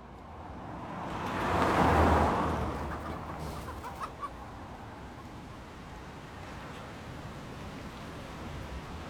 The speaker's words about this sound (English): We're in Jamaica with a band that's partied with the best of them, with one of the original musics of Jamaica, recorded by the sea in Port Antonio.